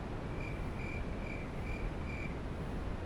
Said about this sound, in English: Someone loves to play the crickets. Oh, I love the crickets.